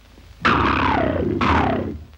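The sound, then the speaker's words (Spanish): A voice imitates a lion's roar twice in quick succession, each a loud, raspy growl that starts abruptly and slides downward in pitch, the second following right after the first; an Egyptian character in a film reproduces the sound of a lion drawn in his speech balloon. “En el globito se dibuja un león y el egipcio reproduce el sonido.”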